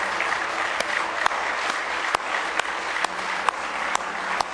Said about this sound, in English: Give Him one more great big hand clap of praise if you love Him.